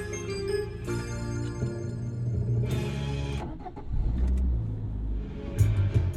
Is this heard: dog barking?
no